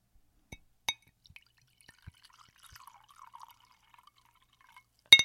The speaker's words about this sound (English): I'm pouring some sake. Hold on.